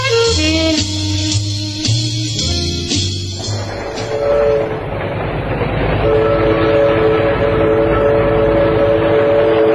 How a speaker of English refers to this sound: Train sure gets bumpy sometimes.